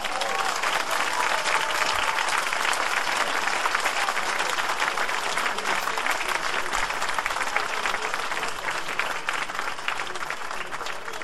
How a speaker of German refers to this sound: Aber es sind zwei Leute, die jeden Takt spielen. Das ist der Bassist und der Schlagzeuger. Ich muss einen Applaus für die beiden haben.